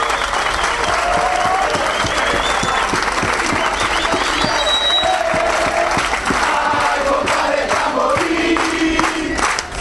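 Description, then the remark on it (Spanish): A crowd applauds steadily for about ten seconds, a dense, loud wash of clapping with scattered shouts and whistles rising above it, in tribute to Milagro Salas and the members of the Tupac Amaru. “Queríamos, en primer lugar, brindar un fuerte aplauso por la compañera Milagro Salas y a los compañeros de la Tupac Amaru.”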